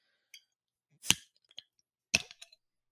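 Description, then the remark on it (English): Two bright glass clinks about a second apart, each with a short ringing tail, followed by a few faint light taps, fairly crisp, with no talking: glasses clinking in a toast with Warlock Imperial Pumpkin Stout from Southern Tier Brewing. “Cheers, everybody. Cheers. Cheers.”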